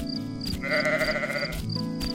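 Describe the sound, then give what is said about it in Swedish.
A sheep outside a tent in the dark lets out one drawn-out, wavering bleat, fairly loud, over a soft, steady background hum. “Det är bara fåret som vill komma in, säger Bubblan.”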